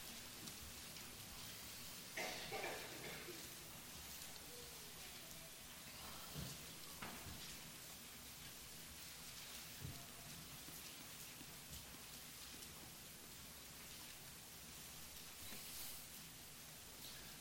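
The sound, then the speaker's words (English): A steady rustle of many paper pages being turned and shuffled at once as an audience looks up a scripture reading, Song of Solomon chapter 8, a soft crackling wash with a few louder flurries, and no one speaking. “Just waiting for the paper shuffling to stop, so I know you found it.”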